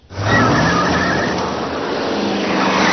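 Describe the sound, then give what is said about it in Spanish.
A car engine runs loudly and steadily, with a brief tire squeal near the start as the car pulls away to be parked around the corner, then settles into a continuous rumble. “Homer aparca el coche, se quita los pantalones y se echa a dormir.”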